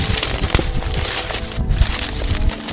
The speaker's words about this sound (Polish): Ściółka w lesie aż trzeszczy.